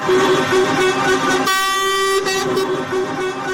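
Loud, sustained air horns of a protest convoy of more than 500 trucks blare together on the main road through Sarajevo, overlapping in a continuous honking chorus with steady tones that shift slightly midway, amid rumbling traffic.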